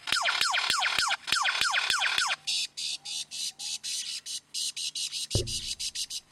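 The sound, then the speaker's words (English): A lyrebird runs through mimicked sounds: a fast series of bright, descending laser-like zaps, then a rapid buzzing, clicking pulse train with a sudden low thud partway through, loud with no talking. “So that is a bird that's just a mimic, and it just mimics different sounds.”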